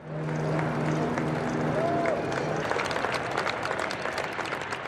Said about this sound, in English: Applause from Airbus employees for the maiden flight of the wide-body A350 this past Friday.